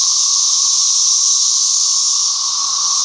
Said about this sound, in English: Using the information we got from the wildlife refuge interns, we found a clearing that was about 100 yards away from the Tennessee River, and we found the mother load of cicadas.